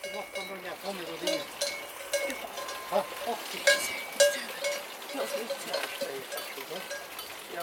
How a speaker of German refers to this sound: Zur Golser Alm sind einige Ziegen von den Bergen heruntergekommen und lassen sich von Anneliese liebkosen.